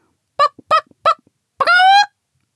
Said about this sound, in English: They must have forgotten to lock the chickens up, whispered Figgy. Oh, the poor things! They sound so scared